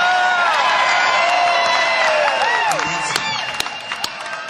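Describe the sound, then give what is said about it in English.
A large concert crowd screams and cheers loudly for the band to play more, high-pitched shrieks and whoops overlapping in a sustained roar, with scattered claps and calls rising and falling throughout. “Well, the crowd started screaming, man.”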